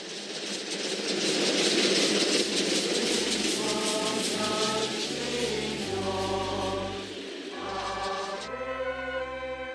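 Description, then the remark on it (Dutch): A train travelling to Lourdes rolls steadily along the rails, a continuous loud rumble with rhythmic clatter and deep engine tones that shift in pitch, with no voices. “De trein was haast 3 dagen op weg, maar we konden onze tijd goed doorbrengen met bidden en met het land te bewonderen.”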